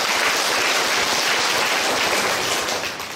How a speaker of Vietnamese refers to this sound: Cho 10 điểm, cho một tràng pháo tay.